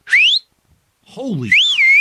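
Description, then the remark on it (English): A loud, shrill mouth whistle rises sharply, then after a pause and a brief low vocal sound, a second longer whistle swoops up and wavers, piercing. “And you know, when I did that whistle, it came out of my mouth.”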